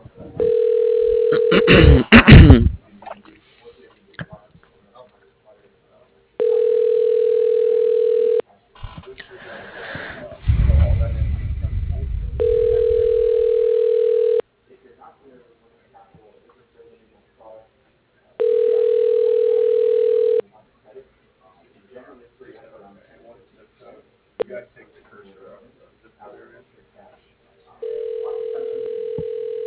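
A telephone extension at Arthur Ruttenberg Homes rings as an automated phone system transfers the call, sounding in steady two-second ringback bursts separated by pauses of about four seconds, repeating four or five times, with faint rustling and breathy noises in the gaps.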